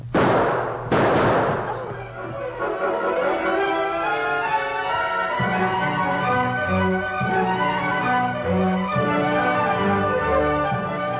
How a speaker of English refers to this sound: Those who lived near Barton's house heard the first shots and the screams. A moment later, there was a tremendous burst of gunfire.